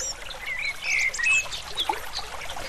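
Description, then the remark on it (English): A bird sings a series of high, thin whistles and chirps in a tree, over a steady hiss of background noise like trickling water, with no one talking. “See if you can spot that bird that's singing in the tree.”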